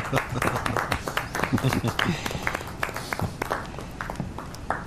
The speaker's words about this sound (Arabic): إذن يستحق التشجيع، أليس كذلك؟ نعم، صفقوا تكريما له.